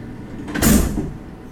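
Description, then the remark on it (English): A heavy metal sliding door, beside a large red sign and leading toward a visitation room, rumbles along its track in one short swell, then fades into a low background hum. “Shortly after he said this, we passed a large red sign next to a metal sliding door.”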